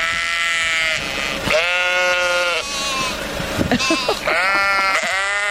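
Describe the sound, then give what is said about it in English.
Several sheep at the Wisconsin State Fair bleat loudly in a continuous, overlapping chorus of long wavering cries, one call running into the next with barely a pause. “They were actually sheep at the Wisconsin State Fair.”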